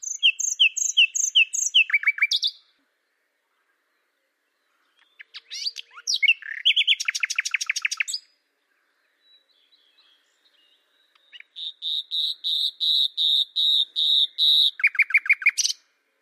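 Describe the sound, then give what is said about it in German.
A recording of a common nightingale singing in clear phrases separated by pauses: rapid repeated chirps, fast buzzy trills and a long run of piercing whistled notes. There is no other sound. “Da ist sie endlich, die Aufnahme der Nachtigall.”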